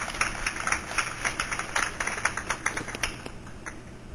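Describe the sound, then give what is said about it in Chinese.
An audience applauds steadily for about four seconds, a dense, crackling wash of many hands clapping at once that fades slightly toward the end, with no voices over it, thanking Academician Shen after his lecture on genes, cells and brain function. “再次掌声谢谢我们的沈院士，谢谢，谢谢。”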